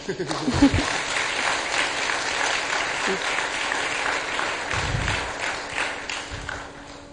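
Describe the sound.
An audience claps steadily for several seconds, a dense, even wash of many hands at moderate loudness, with a few heavier thumps and a brief voice near the start, as married couples who are former participants are asked to come to the front.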